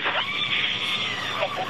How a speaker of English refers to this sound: Hear that screaming inside the capsule?